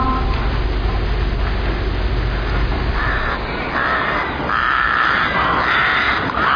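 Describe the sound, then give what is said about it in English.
Birds call out at daybreak on the moor in harsh, repeated caws, several in quick succession toward the end, layered over a steady low rumbling background. No one speaks. “And yet, Holmes, when daylight and birdsong return, the black imaginings of the night evaporate.”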